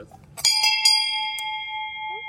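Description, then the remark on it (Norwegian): The large bell of the Oslo stock exchange is struck several times in quick succession, each strike ringing out bright and metallic, then a long sustained tone hums on after the last hit. Fairly loud, with faint background murmur. “Når det ringes i bjelleklokken 9 om morgenen, betyr det en ting. Et nytt selskap kommet på børs.”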